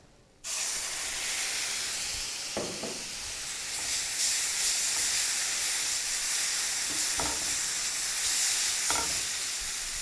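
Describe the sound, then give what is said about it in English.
Mint and coriander paste hits a hot pan and sets off a loud, steady hissing sizzle that continues throughout, broken by a few soft scraping stirs. No one speaks. “Now I'm to add in the mint and coriander paste to this.”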